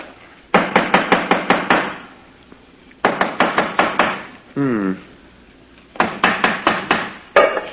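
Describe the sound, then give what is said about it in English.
A hammer taps sharply on a hollow-sounding stone in the corner of a house, in three quick bursts of about half a dozen blows each, fairly loud, with a brief voice sounding between the second and third bursts. “Let me have the hammer,”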